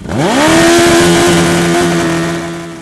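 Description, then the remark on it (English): A beat-up motorcycle's engine, its throttle taped open at an annual bike blow at Reynolds Motorsports in Buxton, Maine, revs up sharply and then holds at a loud, sustained full-throttle scream, steady with no voices. “"Every year, they tape open the throttle of a beat-up motorcycle and take bets on how long it takes the beast to die."”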